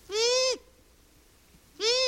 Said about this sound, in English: That's the long-eared owl.